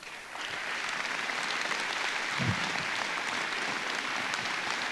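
A crowd applauds steadily, a dense wash of many hands clapping at a constant, fairly loud level for the whole stretch, with no voices rising above it.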